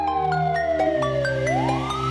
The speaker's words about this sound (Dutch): Ik hoor sirenes, ze komen er weer aan. Denk dit is menens, agenten in de zaak.